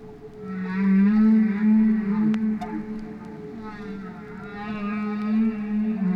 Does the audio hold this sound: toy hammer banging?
no